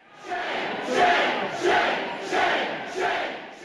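Hundreds of protesters outside the Senate chamber at the Wisconsin Capitol shout their disapproval together in loud, surging waves, swelling roughly every 0.7 seconds like a repeated chant, with no single clear speaker standing out.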